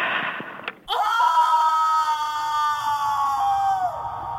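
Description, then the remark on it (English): A person imitates a long, loud scream, one sustained high-pitched cry lasting about three seconds after a brief noisy start, steady before it trails off. “I don't know if I can do that scream. I can hear it really, really clearly. I'll try, but I think it won't be like that.”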